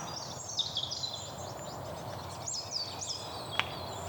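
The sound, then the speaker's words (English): A coal tit calls in woodland in a string of thin, high-pitched notes at irregular intervals, soft and delicate over a low, steady background rumble, with no one speaking. “Yeah, it's a coal tip, the smallest of the tit species.”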